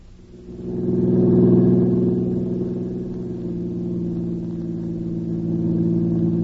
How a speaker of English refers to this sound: Yeah, I'm sure tired to do nothing but driving around in this car.